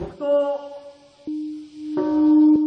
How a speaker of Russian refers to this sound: 8.15 утра 6 августа в Хиросиме зазвонил колокол мира. Именно в это время, ровно 70 лет назад, японский город подвергся первой в истории атомной бомбардировке.